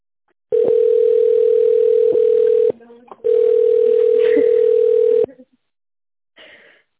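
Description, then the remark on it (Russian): A telephone ringback tone sounds while waiting on the line for an operator after calling the company Irvin: two long, steady, loud mid-pitched beeps, each about two seconds, separated by a short pause, followed by a brief faint sound. “Если вы знаете внутренний номер абонента, пожалуйста, наберите его в тоновом режиме или дождитесь ответа оператора. Пожалуйста, оставайтесь на линии.”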